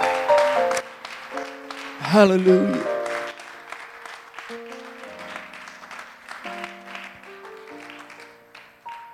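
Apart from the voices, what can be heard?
audience applause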